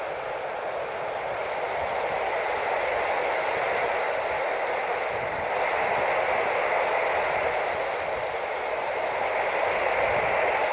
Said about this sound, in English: I'm getting a little quieting, but not enough. Hopefully the wind and the static together isn't too bad.